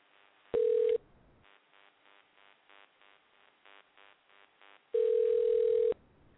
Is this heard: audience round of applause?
no